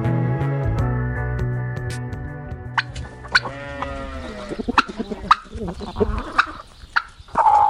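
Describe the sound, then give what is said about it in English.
A flock of chickens clucks and squawks, overlapping calls with sharp, sudden cries rising from a busy, continuous barnyard chatter. “We're talking about the gap in the organic food chain there with the chickens behind us.”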